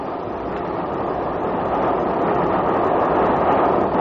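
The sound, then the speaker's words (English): A train rushes along the rails through the night past Preston Park Station, a steady, dense, loud roar of rumbling wheels, swelling slightly as it goes on, with no voices. “The hour shall pass like the wind, even as our famous train rushes through the night.”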